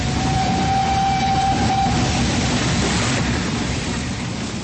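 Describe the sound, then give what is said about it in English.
A steady, loud rumble of a train running on rails, dense low clatter filling the whole clip, with a thin sustained squeal or whine sounding through the first two seconds. “We change at Ashford Junction for Hastings.”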